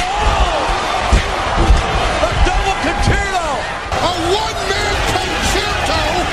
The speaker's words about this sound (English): John Cena's face just whacked that steel chair at the hands of Randy Orton.